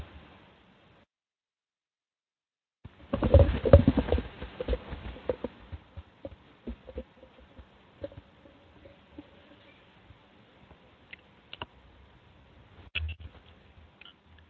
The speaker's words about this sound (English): What kind of keyboard is that? It's very clicky, or somewhat clicky.